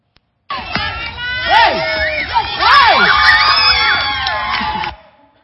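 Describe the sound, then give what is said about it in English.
A crowd of children shouting and cheering excitedly while playing water games at one of the bates, with high, swooping whoops and yells rising over one another in a loud, continuous burst lasting a few seconds before cutting off. “In this video clip, we went out to one of the bates and played some water games.”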